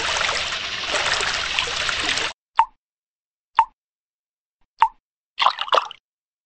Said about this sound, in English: Dad forgot the bath. Drip, drop, drip. Plop, plop, splat. What was that? Said Dad.